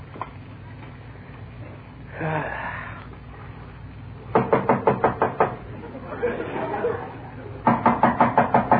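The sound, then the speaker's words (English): Two bursts of rapid, firm knocking on a door, each about eight quick raps. Muffled voices murmur faintly between the bursts over a low background hum. “somebody at the door.”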